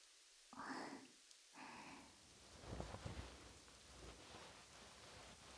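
Steady, chilly rain hisses throughout at a moderate level, with a dense patter building slightly after the first couple of seconds. Two brief muffled voice-like sounds occur near the start.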